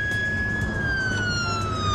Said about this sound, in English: The wailing of the siren could be heard above the traffic noise.